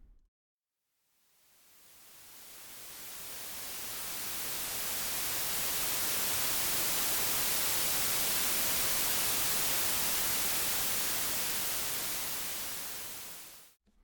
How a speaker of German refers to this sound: Teilweise findet man dann halt auch auf YouTube dann, so weißes Rauschen, das 10 Stunden geht.